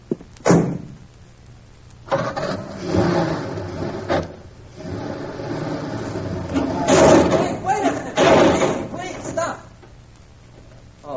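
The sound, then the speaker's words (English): A car engine is started and revs in noisy bursts while a person stands on its bumper, mixed with heavy metallic thumps of the bumper knocking, while muffled voices sound faintly underneath. “I'll stand on the bumper and you start your car.”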